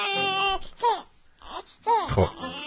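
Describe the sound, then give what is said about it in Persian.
A voice imitates a newborn's wailing cry, a few rising and falling sobbing bursts with short gaps between them, loud. “موقع زایمان دکتر بچه اول میکشه بیرون، یکی میزنه پشتش، گریه میکنه، میده به پرستار.”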